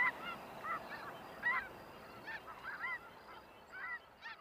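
A flock of snow geese honking repeatedly, overlapping nasal calls rising and falling in loose bursts over a steady background hiss, with no voices.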